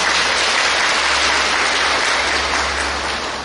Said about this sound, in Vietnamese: Chúng ta dâng lên một tràng pháo tay tán thán công hạnh của Ngài.